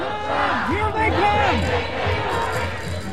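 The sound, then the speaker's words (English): A large crowd of protesters at a rally by a building's driveway gate shouts and chants together, "When Trump says go back, we say fight back." Many overlapping voices rise and fall in a loud, continuous clamor, with no clear pause throughout. “The protesters backed up but chanted, "When Trump says go back, we say fight back."”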